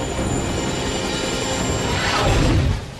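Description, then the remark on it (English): A steady, loud roar of a CTU helicopter flying through the night, swooping low over choppy surf breaking on a rugged stretch of coastline, swelling briefly as it sweeps overhead before easing off, with no voices present. “A CTU helicopter flies through the night, swooping low over choppy surf breaking on a rugged stretch of coastline.”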